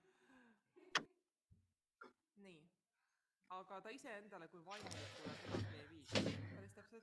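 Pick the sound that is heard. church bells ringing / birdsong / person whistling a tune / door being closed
door being closed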